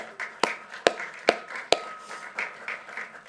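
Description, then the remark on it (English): Group applause in a church for the young people: a few sharp, loud claps stand out early over a softer, steady patter of hands clapping that continues throughout, with no voices. “Why don't we clap our young people for being so wonderful?”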